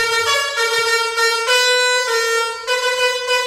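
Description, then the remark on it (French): A loud, brassy truck air horn blares a cover of a song melody, its steady harmonic blasts shifting pitch in short phrases with brief breaks between notes, unaccompanied. “Génial, Blind Test, klaxon, camion, des reprises de chansons, mais avec les génial. Klaxons.”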